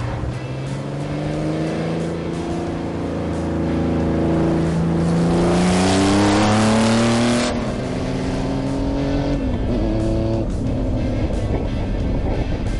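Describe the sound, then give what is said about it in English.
A loud street-legal race car engine accelerates while giving rides around the roads, its pitch climbing through the gears and roaring hardest midway before easing into a steadier rumble, with no one talking. “So he was down here with us in the street legal car, met with some of the Houston Texans, and we've been giving them rides around the roads here.”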